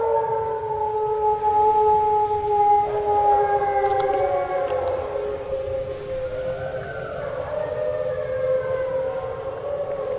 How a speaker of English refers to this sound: Despite the prodding, the wolves did not need much encouragement tonight.